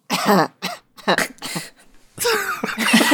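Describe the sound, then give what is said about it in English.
A voice imitates coughing up a giant hairball: several short, raspy, gagging coughs, then a longer, strained retching heave, loud and throaty, with no other talk. “And then Wingatha coughs up a giant hairball.”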